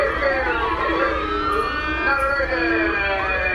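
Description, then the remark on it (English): A loud, continuous wailing siren with multiple overlapping pitch sweeps rising and falling, filling the whole clip with a steady, blaring alarm tone. “Yeah, that's my not a virgin alarm going off.”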